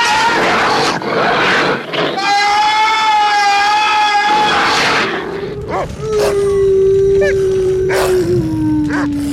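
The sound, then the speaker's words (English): The Devil Dog in a 1970s TV movie, shown in its true form, lets out two long, loud howls, the first high and wavering, the second deeper and drawn out, over a dense, rumbling background of growls and noise. “He shows up at Cliff Barnes' house where, for the first time in this movie, we get to see the Devil Dog in its true form.”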